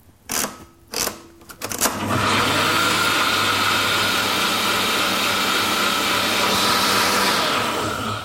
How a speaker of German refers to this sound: Ich habe jetzt den Limettensaft, den Läuterzucker und die Gurken in meinen Mixer gegeben und püriere das jetzt einmal durch, damit die Gurken halt auch schön geschmeidig werden. Es wird laut.